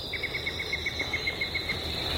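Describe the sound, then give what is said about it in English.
A yellow-breasted chat sings in the morning, a rapid, evenly spaced run of about a dozen short, identical mid-high notes, over a steady high-pitched insect-like drone and low background rumble. “All those different notes, you know, tweet, toot, toot, toot, toot, toot, toot, yank, yank, that's all the same bird. That's the yellow-breasted chat, and that is one of my favorites of this time of the year.”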